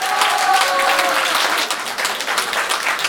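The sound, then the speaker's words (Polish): An audience applauds steadily at a doughnut and angel-wing pastry contest organized by the Municipal Cultural Centre in Brzeźno, for the tastiest-doughnut distinction given to the Magnolia seniors' club. A dense wash of many hands clapping at once, with a few bright tonal sounds early on, fairly loud throughout before easing slightly. “Brawa!”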